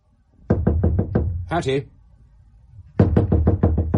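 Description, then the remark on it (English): Two bursts of firm, rapid knocking on a door, about five raps and then about seven, separated by a brief pause with a short, muffled voice in between. “Open this door at once.”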